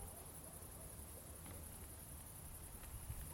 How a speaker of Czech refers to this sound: Přesně takhle. Takhle zní cvrčci a jsou tady všude kolem mě, protože jsem se rozhodl, že se vydám teďka v noci na malou takovou procházku.